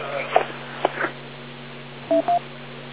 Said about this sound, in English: Whoever's going to speak, wait long enough for all four beeps so that we can hear somebody out of the area if they want to get through.